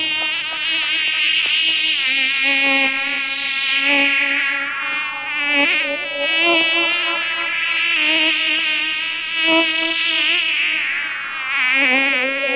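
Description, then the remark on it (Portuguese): Loud, continuous bee-like buzzing blares from car audio speakers for the whole stretch, its harsh nasal drone rising and falling in pitch in slow sweeps, with no voices. “Essas caixas de abelha.”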